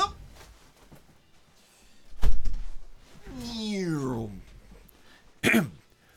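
A door closes: a dull thump, then a drawn-out creak that slides downward in pitch, ending in a sharp clunk as it shuts.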